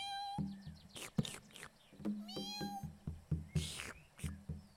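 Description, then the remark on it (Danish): A voice imitates a cat, giving several drawn-out meows with rising and falling pitch, fairly loud, over a steady rhythmic background with some clicking sounds. “Som en kat, siger den.”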